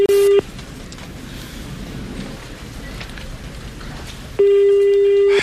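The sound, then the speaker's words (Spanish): A steady, buzzy ringback tone on an outgoing census survey phone call sounds briefly, then gives way to about four seconds of soft hissing noise before the loud ringing tone returns. “¿A quién estamos llamando?”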